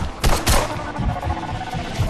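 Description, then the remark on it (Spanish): A burst of gunfire in the Philippines: several sharp, loud cracks fired in quick succession, followed by more scattered shots against a dense, rumbling background. “Y en ese momento me suena el móvil, ven corriendo, porfa, que estoy escuchando disparos.”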